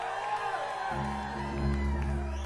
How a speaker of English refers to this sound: And tonight, I stood out there in the crowd for the first half of the set in absolute awe. Give it up for the … right here.